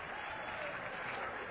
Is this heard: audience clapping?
yes